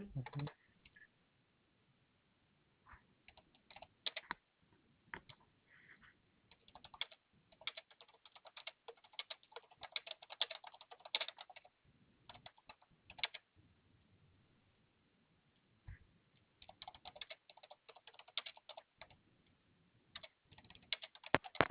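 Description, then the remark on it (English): Quick, uneven bursts of typing on a computer keyboard clatter on and off for about twenty seconds, crisp clicks in irregular runs with short pauses between, fairly quiet and with no talking. “I can hear you typing.”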